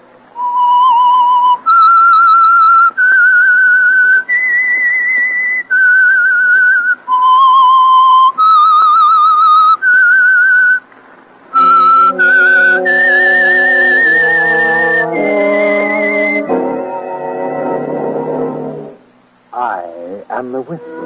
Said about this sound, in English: That whistle is your invitation to listen to the Household Finance Corporation program, The Whistler.